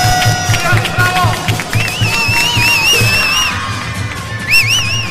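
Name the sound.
crowd applause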